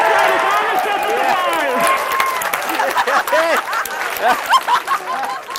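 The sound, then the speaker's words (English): A room full of people at NASA's Jet Propulsion Laboratory near Los Angeles bursts into sustained applause and cheering after touchdown of a spacecraft on a planet's surface is confirmed. Excited voices and whoops rise over continuous dense clapping throughout. “Applause at NASA's Jet Propulsion Laboratory near Los Angeles for one of the organisation's biggest achievements of recent years.”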